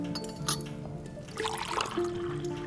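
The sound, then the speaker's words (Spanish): Coffee being served: liquid pours into cups while glass and ceramic clink lightly a few times, with a soft trickle and quiet room tone underneath. “¿Quieren café? Ahí está el café y el azúcar para el agua.”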